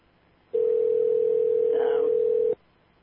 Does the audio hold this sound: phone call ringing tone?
yes